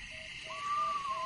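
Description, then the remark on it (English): An eastern screech owl gives a steady, wavering whistled trill that slides slightly downward, fairly faint against a faint hiss of background noise, with no voices present. “Just play the Eastern screech owl so if people hear it, they know what they're hearing.”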